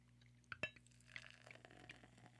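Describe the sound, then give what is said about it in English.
A glass clinks once, then a fizzy drink is poured slowly into a small regular glass, not a wine glass: a quiet trickle with a soft crackling fizz of bubbles and no voices. “If you do a slow pour, then you don't get as many bubbles.”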